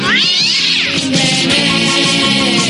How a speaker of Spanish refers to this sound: Los arañazos y ronroneos de Juan Cato.